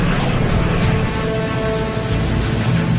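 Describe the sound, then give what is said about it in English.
Loud, steady drone of a massive four-engine aircraft on landing approach to a runway, flown by a novice pilot, a continuous roar with a faint whine layered over it, constant throughout with no voices. “this novice flyer has to bring a massive four-engine aircraft down onto a”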